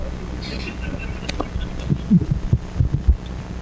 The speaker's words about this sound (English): And the printer is going right ahead.